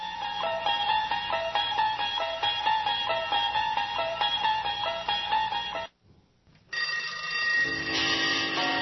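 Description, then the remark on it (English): Bells ring continuously in a bright, clanging cascade of high tones, stopping abruptly for about a second before a second burst of ringing resumes at full loudness. No voices are heard. “Oh, I hear the bells.”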